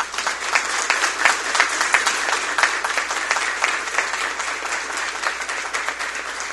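Sustained audience applause, a dense wash of many hands clapping at a steady level for several seconds, with no one speaking over it.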